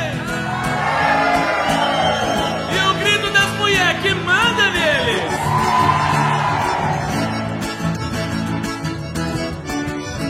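A crowd of men shouts and whoops with rising, impassioned voices, a loud continuous roar of yelling that swells and falls over about ten seconds.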